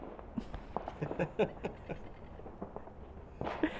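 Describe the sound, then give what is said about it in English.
Fireworks set off by families popping and crackling across the neighbourhood and surrounding streets on Guy Fawkes Night in Auckland, a scattered series of faint, irregular bangs over a low background rumble, with a slightly louder burst near the end. “I love Guy Fawkes, although some people can be very irresponsible with fireworks”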